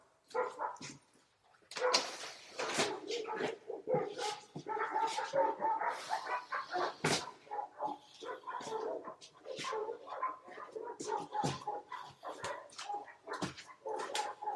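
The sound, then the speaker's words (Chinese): Four dogs bark angrily as they charge at a man, in a dense, overlapping barrage, sharp aggressive barks and yips tumbling over one another almost without pause, fairly loud for the whole stretch. “然后四个狗对他义愤填膺，满腔怒火的冲过去了，凶巴巴的，四个都凶巴巴。”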